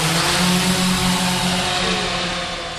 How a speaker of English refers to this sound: It lifts off smoothly from the warehouse floor. The drone passes over our heads, creating a little breeze and hovering in midair like a bird in the wind.